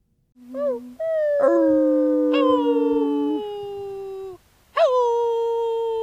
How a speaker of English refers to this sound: That was dogs, I guess? That was us trying to get the dogs to harmonize, but they didn't want to.